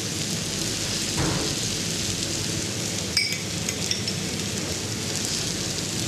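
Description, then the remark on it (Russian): Mushrooms sizzle steadily in a hot frying pan, added on top of a layer of potato, in a dense crackling hiss that stays even throughout. A utensil clinks briefly against metal partway through. No one speaks. “Теперь дальше. Кладем грибочки.”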